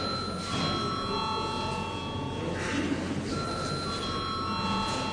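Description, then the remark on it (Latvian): The chamber bell of the Latvian parliament, the Saeima, rings before a vote, continuously for several seconds, a steady, high-pitched electric ring held at an even level over a low background murmur, with no speech. “Lūdzu zvanu.”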